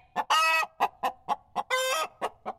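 A chicken clucks in a quick series of short, sharp notes, broken up by two longer, drawn-out squawks. It sounds clear, with no talking.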